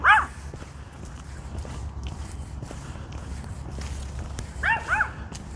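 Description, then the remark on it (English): A dog behind a fence lets out a sharp bark, then after a pause gives two or three quick, yappy barks over a steady low outdoor rumble with faint scuffing steps. “I can see his little muzzle sticking through the fence. Bark, bark, bark.”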